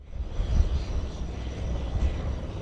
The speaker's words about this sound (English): A gray haze hangs around the Bethel airport as a cargo plane takes off. It's destined for an outlying village with possibly food or mail or other goods that can't get to the villagers by any other means.